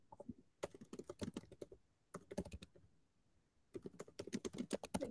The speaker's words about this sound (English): Oh, is he typing it? He's working on the bylines. He's putting it in chat.